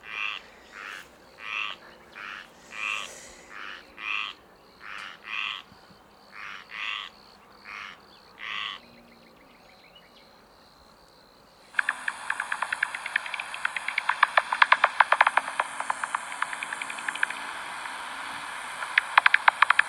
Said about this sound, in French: Donc ça, c'était la pipistrelle pygmée. Parce qu'en fait, les chauves-souris, elles utilisent le son, les cris, à la fois pour communiquer entre elles, comme nous on fait, mais elles utilisent aussi les cris pour se localiser.